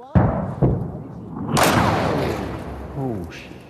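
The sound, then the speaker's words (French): A loud second explosion bursts out near Mykolaiv, Ukraine, and rumbles on for a couple of seconds, after a few sharp thuds at the start, as a camera crew keeps filming. A man's voice speaks briefly near the end. “Et la deuxième explosion ne tarde pas à se faire entendre.”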